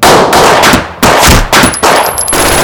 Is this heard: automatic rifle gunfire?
yes